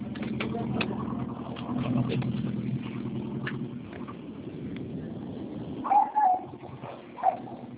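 A low, steady rumble of a car outside fills the first few seconds, then eases off, followed by a couple of short, higher-pitched sounds near the end.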